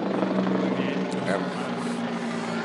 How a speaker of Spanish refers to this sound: Pasó el helicóptero a los supergüeyes, pero bueno. Es que ya vienen por nosotros, güey, ya nos tenemos que ir.